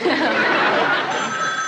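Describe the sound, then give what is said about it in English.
A telephone rings with steady, bright tones cutting through a busy, noisy background with faint chatter and laughter, the ring growing clearer toward the end. “Phone.”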